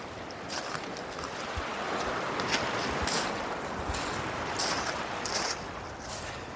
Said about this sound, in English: I love the sound of the sea. I grew up beside the sea. And I'm on Stonehaven Beach at the moment, just beside the River Cowie. And it's quite benign today.